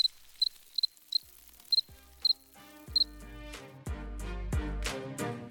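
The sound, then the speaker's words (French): Crickets chirp in short, evenly spaced pairs of bursts, clear, before music with a deep bass line swells in and takes over. “Et toi, serais-tu prêt à partager ta maison avec des larves, des grillons et des champignons?”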